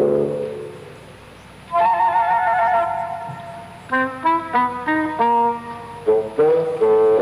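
A horse neighs loudly: a long, high whinny, then a quick, shaky run of pulsing calls, ending with another short burst. No one speaks.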